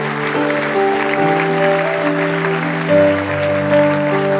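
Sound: audience applauding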